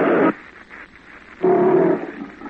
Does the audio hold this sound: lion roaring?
yes